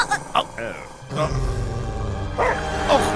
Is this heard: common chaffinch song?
no